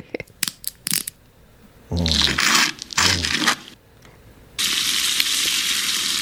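A few sharp, quick snaps like a chocolate bar breaking, two louder crackling bursts, then steady, bright bacon sizzling that hisses on to the end. No one speaks.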